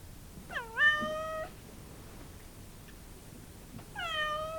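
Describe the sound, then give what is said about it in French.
A cat that has just been given a dose of elixir lets out a loud, drawn-out yowl, then after a few seconds of quiet gives a second long, wailing cry. The sound is strained, with no voices. “fit un bond de quelque 2 mètres de haut, poussa un miaulement terrible.”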